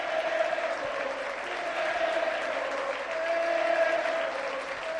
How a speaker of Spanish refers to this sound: Mira la ovación de todo Vallecas. Que ya lo fue en la ida también.